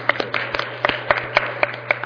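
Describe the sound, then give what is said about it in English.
Applause from a small audience at an economics talk, the listeners applauding themselves, comes through as a steady, fairly even run of handclaps, about eight distinct claps over two seconds, moderately loud over a faint low hum, with no talking. “For all of you to be here to listen to all these numbers, I think you deserve a round of applause.”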